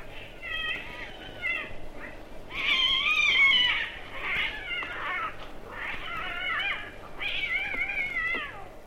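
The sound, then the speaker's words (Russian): Cats on house rooftops at night yowling and squalling at each other in a fight, with long, wavering, high-pitched wails that swell into harsh screeching bursts, loud and almost continuous throughout, with no talking. “Концерты кончаются отчаянной потасовкой между певцами.”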